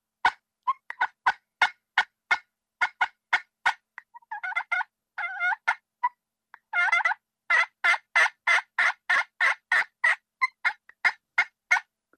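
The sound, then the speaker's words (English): A turkey pot call imitates a hen turkey's clucks and purrs: a steady run of sharp, evenly spaced clucks, broken by short rolling purrs, then more rapid clucks. Clear and alone, with no talking. “Yelp and cluck and purr. If you can do those 3 calls on a pot call, that's all you need to know how to do.”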